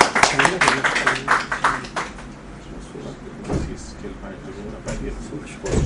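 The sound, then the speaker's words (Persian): An audience applauds to welcome a doctor invited to speak at a session on modern medicine, a dense, crackling burst of many hands clapping that is loudest in the first two seconds, then thins into scattered claps and murmuring voices. “من دیگه مصده نمیشم، دعوت میکنم از آقای دکتر در خدمت باشیم. تشویق فرمایید.”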